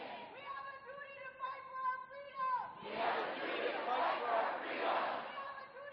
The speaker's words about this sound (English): The night started with a large crowd gathering in front of Northrop Auditorium. Over the course of about a half hour, numerous students spoke in front of the crowd.